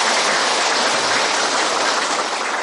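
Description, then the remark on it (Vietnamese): A crowd claps together in a steady, dense wash of applause, loud and unbroken for a few seconds with no voices rising above it. The applause is given in gratitude by local people at a charity visit where gifts are handed out. “Cho nên trước hết xin tất cả bà con dâng lên một tràng pháo tay để tri ân.”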